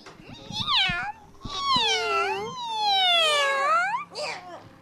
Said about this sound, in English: Who let the cat in here?